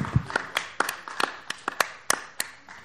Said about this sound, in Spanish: Fuerte al Señor. A strong hand clap to the Lord.